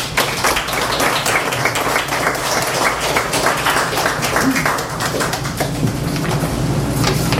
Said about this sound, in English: As we give Don another hand,